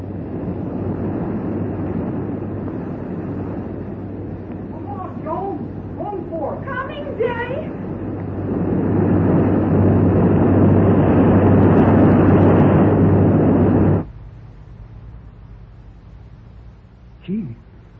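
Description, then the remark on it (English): A steady rushing roar of water pours in through an opened valve, swelling louder about halfway through before cutting off abruptly. A few brief squealing, voice-like tones rise over the flow early on. “Water awfully fast.”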